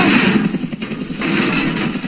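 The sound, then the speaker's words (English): A helicopter engine roars steadily and loudly with a broad, rumbling drone that dips briefly before surging back, the chopper flying at 1,000 feet. No one speaks. “Just make sure I don't fall out of the chopper.”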